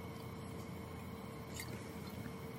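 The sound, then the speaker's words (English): Quiet sipping of Santa Margarita white wine, a quick small sip, with soft wet mouth and swallowing noises over a low steady background hiss. No one speaks. “Let's take a small drink for government news being wrapped up.”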